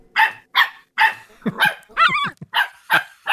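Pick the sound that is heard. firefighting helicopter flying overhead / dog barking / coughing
dog barking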